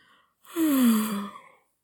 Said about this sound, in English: He yawns desperately.